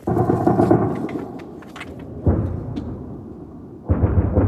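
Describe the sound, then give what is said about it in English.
Air defense fire shooting down drones in the skies of Kyiv at night, recorded on a phone held out of a window: three heavy, rumbling booms erupt one after another, each swelling loudly and rolling off into a low, thunder-like rumble, with sharp crackles in between. “So you can hear the air defense shooting down drones.”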